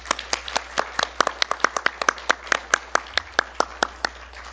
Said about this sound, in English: We need to invite all the new deacons up front, please. 我们给他们一个热烈掌声吧。 Let's clap for them.